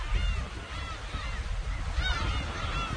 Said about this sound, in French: Là, il y a tous ces oiseaux de mer sur des bancs de sable au milieu du canal qui remonte vers la ville.